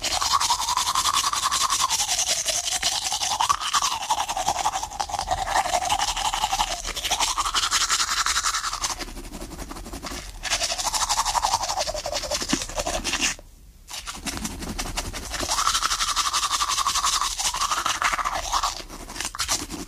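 Teeth being brushed with a toothbrush in a house: steady, wet scrubbing strokes in repeated bursts of a few seconds each, with a brief pause near the middle, no voices.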